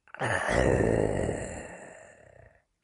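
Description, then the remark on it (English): A person imitates a growl: a single long, low, rasping growl, loud, lasting a couple of seconds and fading out at the end. No speech accompanies it. “And the purrs of the snores replaced by growls.”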